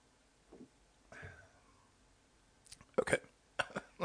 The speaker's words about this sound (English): Okay. Let me get a drink so I don't have to keep clearing my throat.